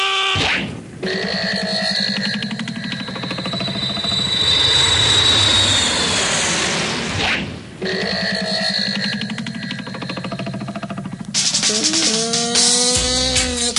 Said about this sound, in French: Nous sommes dans un avion.